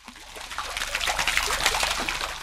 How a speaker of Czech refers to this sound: Tryskající historickou fontánu na nádvoří míjí denně desítky turistů, kteří se vydávají na prohlídkové okruhy.